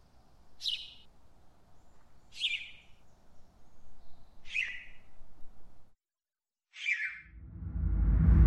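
A small bird chirps four times at a slow, even pace, each note short and bright over a low background rumble, followed by a brief silence and a swelling rush of noise.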